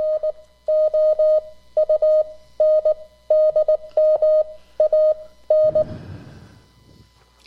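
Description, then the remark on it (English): Amateur radio CW Morse code sent as a steady, mid-pitched tone keyed in quick dots and dashes, grouped in rhythmic bursts for several seconds, then cut off by a short rush of radio static. “This is CW or Morse code.”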